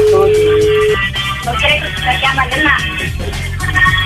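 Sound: telephone ringing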